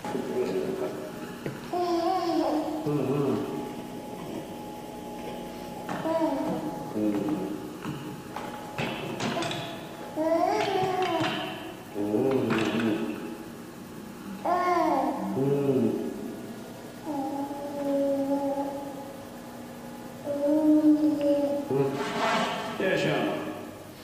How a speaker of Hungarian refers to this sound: Tehát azt látjuk, hogy igenis ezek a babák még bőven a beszéd előtt képesek felvenni egy ilyen dialógust, sőt, Jaffa és Bibi és munkatársai egy hosszabb kísérlet sorozatban megállapították, hogy alkalmazkodnak a beszélő ritmusához